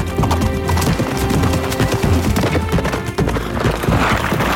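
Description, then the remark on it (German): Steady clip-clop of the pony Little Thunder's hooves as it is ridden at a walking rhythm at night, following the shaman at a safe distance. The sound is loud and continuous throughout, with a brief whinny-like sound mixed in and no talking. “Ich stieg auf kleiner Donner und in sicherem Abstand folgten wir dem Schamanen.”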